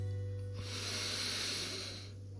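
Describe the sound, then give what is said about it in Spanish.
A slow, steady, deep inhalation through the nose, a soft airy hiss lasting about a second and a half, fairly quiet over a low background hum, with no talking. “En unos instantes comienzas a respirar y hacemos tres respiraciones profundas.”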